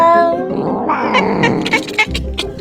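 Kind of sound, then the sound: animal, cat vocalizing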